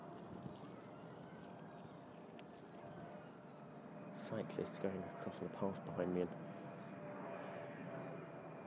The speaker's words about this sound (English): You can hear an aeroplane coming over behind me.